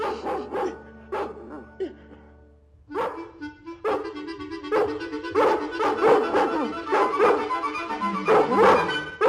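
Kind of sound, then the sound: animal, dogs and puppies barking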